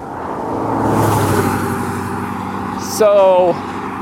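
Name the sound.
car passing by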